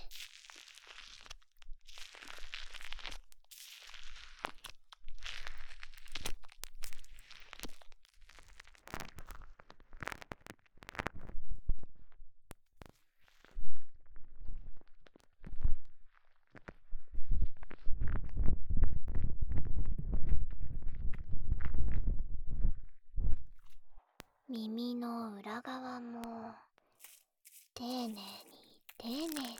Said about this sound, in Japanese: 耳の外側って見えないから汚れるんですよね。こんな感じでマッサージしながら泡で皮脂とかも取って。